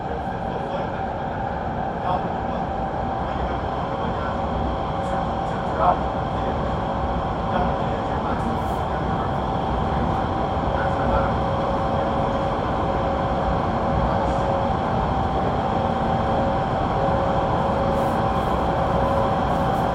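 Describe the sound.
A subway train rolls along in Zhengzhou, heard from inside the carriage as the next station is the terminal, Zhengzhou Sports Center: a steady, loud rumble with a constant motor whine and occasional small clicks and rattles, with a faint voice murmuring underneath.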